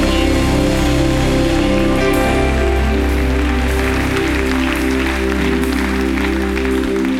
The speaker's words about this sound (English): Would you give these people a big hand clap? Welcome to the family of God.